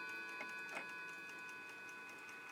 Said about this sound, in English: Very smooth movement. That's what I love about these clocks. Very well built, English throughout. Beautiful sonorous rods.